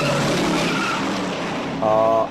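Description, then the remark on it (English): Tires squeal loudly against a steady engine roar, with a sharp high-pitched screech rising at the end, as cars skid hard through a turn in a movie car chase scene on the hills of San Francisco with Steve McQueen. “And it just, you know, squealing tires and people being thrown left and right and Steve McQueen being in charge.”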